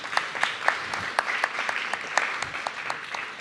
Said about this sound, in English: Yes, that's correct. Round of applause. Good job.